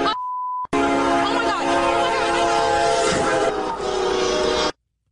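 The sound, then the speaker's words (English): A short electronic beep, then a train's horn blares loud for about four seconds over heavy rumbling rail noise, before everything cuts off abruptly. “Hear the train?”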